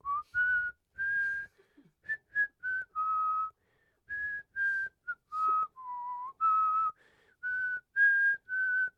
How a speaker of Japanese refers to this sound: よー、危ない、口笛吹いてる場合じゃん、時間ないんだ、余裕かましてる場合じゃない、いきますよ。